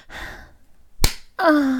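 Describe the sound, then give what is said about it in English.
One sharp slap of a big hand on bare buttocks, set between a breathy exhale before it and a rising, drawn-out moan right after. “Your big hands feel so good slapping my fat, fuckable ass.”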